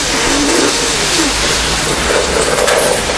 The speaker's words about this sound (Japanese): うん、パワーショベル。この間見学したでしょ？パワーショベル。